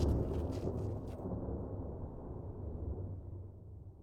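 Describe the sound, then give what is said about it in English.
A deep, continuous roll of thunder from an approaching storm rumbles for several seconds, heavy in the low end, with a brief crackling edge at the start before settling into a steady growl. No voices are heard. “Let's head back, sir. The storm's coming on.”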